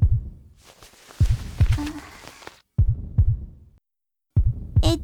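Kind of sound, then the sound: human body sound, pounding heartbeat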